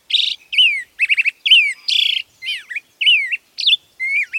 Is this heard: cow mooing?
no